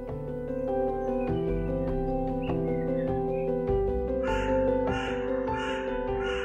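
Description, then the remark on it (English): A black-and-grey hooded crow in a city caws in a rhythmic series of about five harsh calls in the second half, heard over a steady, droning musical backdrop. “the black and grey ones I see around the city are hooded crows that live in large flocks”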